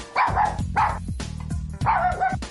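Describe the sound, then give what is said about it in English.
A dog, Shep, barks several times in quick, uneven bursts, loud, with short yips mixed in; no one speaks over it. “Do dogs have a king? Is that what you say?”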